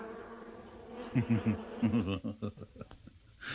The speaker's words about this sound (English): Well then, what is that buzzing noise?